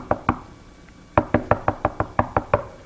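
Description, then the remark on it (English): Knocking on a door: two quick raps, a brief pause, then a steady run of about eight firm, evenly spaced knocks. The knocks are sharp and fairly loud, with no talking. “What do you do when you hear that at home? Man, most of the time somebody will make a beeline for the door.”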